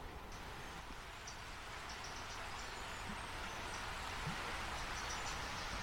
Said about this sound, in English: We're standing on the edge of the River Kent. You probably hear the riffles making that wonderful sound.